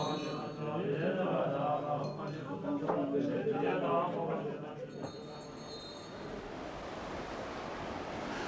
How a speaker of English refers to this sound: A very rickety bridge here, one of many, but this is the worst. Across a terrifying torrent of water, and I can see right through down to the water below.